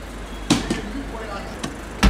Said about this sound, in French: On m'a fermé la porte au nez. C'était deux personnes qui discutaient sur le pas de la porte. Et la porte s'est fermée.